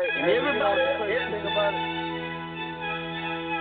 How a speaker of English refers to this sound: Everybody, even his ringtone is loud.